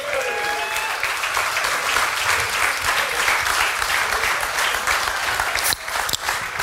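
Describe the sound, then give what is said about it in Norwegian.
Sustained audience applause welcoming the evening's main guest, Per Sandberg. It is a dense, steady wash of clapping at fairly high volume for about six seconds, with a few faint whistles at the start and a brief dip near the end. “Da det bare å gi en applaus til Per Sandberg.”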